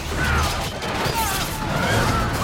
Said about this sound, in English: The ship is side-on to the wave when it strikes. On the bridge, the crew see the wave loom over the prow. The wave breaks across the full length of the ship, smashing into it with colossal force. The crew on the bridge are knocked off their feet.